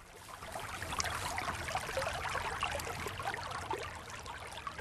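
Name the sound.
flowing mountain river water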